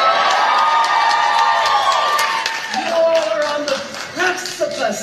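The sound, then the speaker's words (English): A large crowd cheers and shouts loudly and continuously, with whoops and scattered clapping rising over a dense roar of many voices. “I heard cheering. I didn't hear any booing.”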